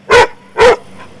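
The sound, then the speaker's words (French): Two loud dog barks in quick succession, about half a second apart, each short and sharp, followed by a faint trailing yip. “tais-toi, tais-toi, stop. Ouais, c'est bien. Non, hé, je t'ai dit stop, oui, c'est bien, calme.”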